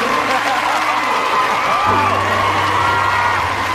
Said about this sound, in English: That was weak. Let's try that again. Okay. All right, here we go. Ready, go. Clap. All right, there you go. All right, there you go.